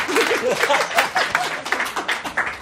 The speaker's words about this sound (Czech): Takže můžeme ještě jednou zatleskat moderátorovi.